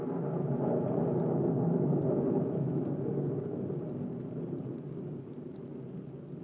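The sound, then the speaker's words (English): Steady heavy rain pours down on a wet night with a deep rolling thunder rumble underneath, a dense continuous wash that eases slightly toward the end, with no voices. “The ground is wet, Grigsby. Not a night to do this job. I'm superstitious about the rain.”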